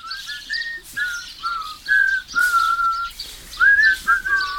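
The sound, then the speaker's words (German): A person whistles a cheerful tune while walking along a narrow path to the Kieselweiher, a village pond: a string of clear sustained and gliding notes at a steady moderate loudness, with no talking. “Pfeifend befinden sie sich auf dem Weg zum dorfbekannten Kieselweiher.”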